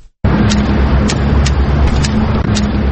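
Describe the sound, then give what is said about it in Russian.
A white cane taps on pavement, about five sharp, light clicks at a steady walking rhythm, set against a loud, continuous rumble of road traffic and engines. “Это стук белой трости.”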